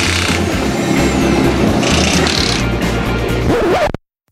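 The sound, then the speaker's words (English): A loud car engine roars steadily for about four seconds, its rumbling tone shifting and rising in pitch near the end before cutting off abruptly into silence. No one speaks. “That's it, Tony. Car sounds?”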